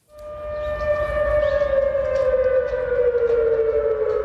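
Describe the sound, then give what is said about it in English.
A civil defense air raid siren wails in Seoul, South Korea, after a North Korean satellite launch, in one long sustained tone, its pitch sagging slightly, carrying loudly over a low background rumble with no voices. “Well, sirens were heard in South Korea's capital after the launch.”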